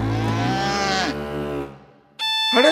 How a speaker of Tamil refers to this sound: ஆமாண்ணே பாடுதுண்ணே. அம்மானு சொல்லுது பார் மாடு கூட தமிழ்ல, இது மனுஷனுக்கு புரியல.